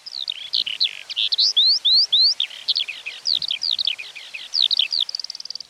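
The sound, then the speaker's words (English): A skylark pours out a continuous, rapid warbling song of high chirps, trills and slurred whistles, bright, with no pauses and no voices. “These long and complicated song flights can last for up to an hour”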